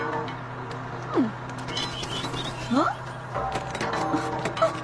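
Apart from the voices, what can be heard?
hail falling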